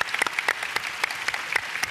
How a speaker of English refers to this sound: I have to say, are there any single moms in the audience? All right, can we just like give them a round of applause? It's a hard job.